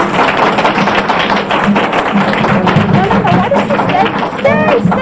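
A chair scrapes and squeaks across the floor with a few thumps and taps, while a room full of people murmurs and chatters in the background.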